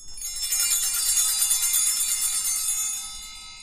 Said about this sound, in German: Also auf dem Altar, da wird das Abendmahl vorbereitet. Und dann, wenn das Brot hochgehalten wird, dann klingeln wir einmal. Und wenn der Wein hochgehalten wird, dann klingeln wir auch.